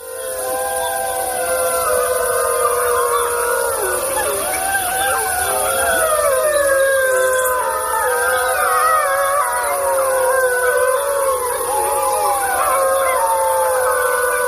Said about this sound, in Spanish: habíamos escuchado más bien con Félix Rodríguez de la Fuente el aullido del lobo, pero es que aquí hay un montón